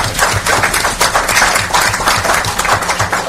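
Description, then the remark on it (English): An audience breaks into steady applause for the building administrators: many hands clapping at once in a dense, crackling wash that holds at an even, fairly loud level throughout, with no voices heard. “So I applaud all of our building administrators.”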